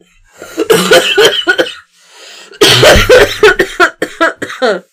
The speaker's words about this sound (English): I was trying not to cough, and it just made it worse.